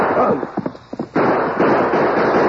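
A burst of sharp, loud gunshots fires in quick irregular succession, followed by a dense, continuous crackling roar with no voices.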